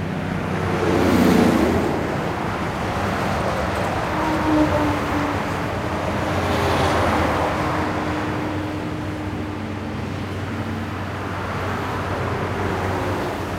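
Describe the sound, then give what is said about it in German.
A steady, broad rumble of distant traffic on the A4 motorway fills the air, swelling and easing in slow waves much like surf, with faint tonal hums of passing vehicles and no voices. “Von Ferne her rauscht die A4, fast wie der Ozean.”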